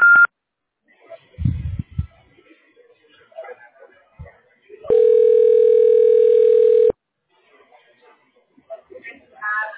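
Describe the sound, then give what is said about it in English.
A loud, steady Google Voice telephone tone, after which the caller is asked to state their name, holds for about two seconds, then cuts off sharply. Before and after it come faint, muffled voices and a few soft thumps. “Hello, please state your name after the tone and Google Voice will try to connect you.”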